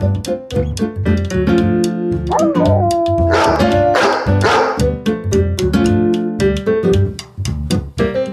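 A dog barks and yips over and over in quick, busy bursts, loud, with a brief whimpering whine partway through and no talking.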